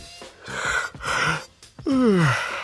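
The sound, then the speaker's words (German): A person yawns: a long breathy intake of air that ends in a loud, drawn-out voiced sigh sliding downward in pitch. No speech accompanies it. “Ihr Gastgeber fängt an zu gähnen?”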